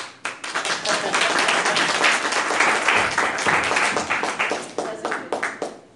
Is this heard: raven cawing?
no